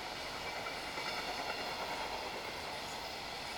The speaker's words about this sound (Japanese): まもなく2番線に上野東京ライン宇都宮線直通普通宇都宮行きが参ります。危ないですから黄色い線までお下がりください。この列車は4つドア10両です。